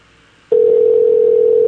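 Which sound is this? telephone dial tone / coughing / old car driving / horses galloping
telephone dial tone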